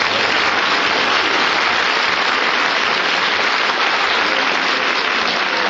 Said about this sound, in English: You're not supposed to applaud, you're supposed to boo.